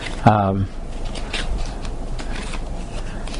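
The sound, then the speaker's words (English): A speaker shuffles about twenty pages of paper notes, the sheets rustling steadily for several seconds in a soft continuous scraping, after a brief voiced sound right at the start. “I got so many pages here.”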